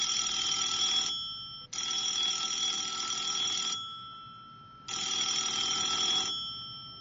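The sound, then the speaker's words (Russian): A telephone rings in the morning, waking a little boy, in three bright, high-pitched electronic bursts, each lasting one to two seconds with short pauses between; the caller is his mother. The ringing is steady and shrill, and no one speaks. “На следующее утро малыша разбудил телефонный звонок.”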